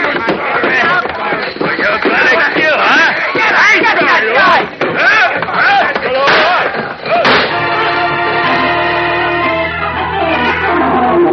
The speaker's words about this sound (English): Like a man gone berserk, the giant Boris first smashes Leo to the floor with a chair, and the gunman's shots go wildly into the walls.